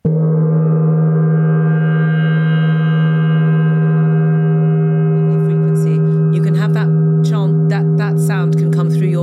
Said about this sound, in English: So what I would recommend is Back to Mindfulness Bell We Go,